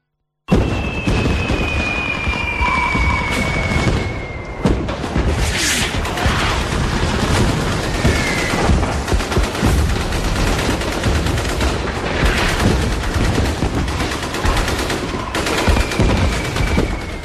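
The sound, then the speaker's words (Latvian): Archival 1939 recording of Winter War gunfire in Finland: dense, continuous crackle of rifle and machine-gun shots with occasional heavier booms, steady and loud throughout over a noisy, hissy old-recording background, with no voices. “Šī nav abstrakta skaņa, kas ir vienkārši tā ilustrācijai piemeklēta šim raidījumam, bet gan precīzas vēsturiskas skaņas no 1939. gada.”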